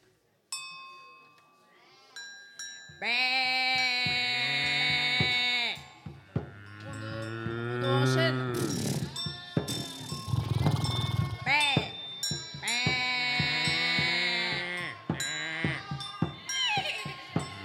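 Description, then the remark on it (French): Loud, drawn-out bleats of ewes come in several long wavering calls, prominent, with brief voice-like sounds mixed between them. “Il y a des brebis ce soir.”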